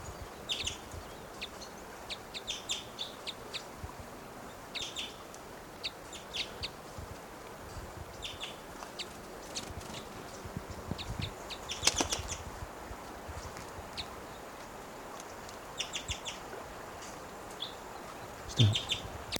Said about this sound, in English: Recording that male is coming down. He's giving little cuckoo-like calls.